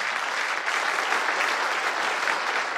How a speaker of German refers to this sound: Meine Damen und Herren, den ersten Applaus geben Sie sich selbst.